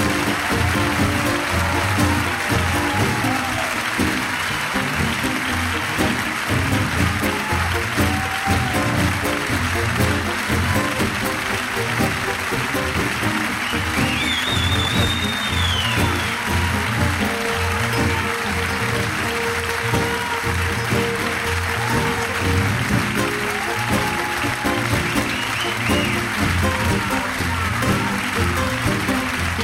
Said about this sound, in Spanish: Gracias, Buenos Aires. Gracias, un aplauso para todos.